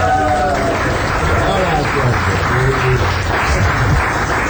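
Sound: crowd applause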